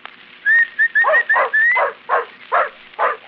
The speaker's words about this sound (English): There you are. That's a good dog. That's a fine dog.